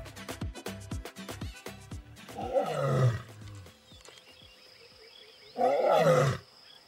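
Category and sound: animal, lions roaring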